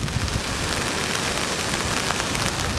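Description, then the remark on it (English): Steady, heavy rain falls continuously on a rainy day in Regent, a suburb of Freetown, Sierra Leone: a dense hiss of drops striking surfaces with a low rumbling undertone and no voices. “Maliki Kamara is visiting his former hometown of Regent, a suburb of Freetown, on a rainy day”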